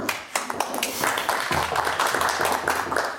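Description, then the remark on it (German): Audience applause welcoming the next speaker of a talk on writing with Pandoc and Markdown, a dense, steady patter of many hands clapping at once, sustained throughout at moderate loudness with no voices over it. “Einen herzlichen Applaus”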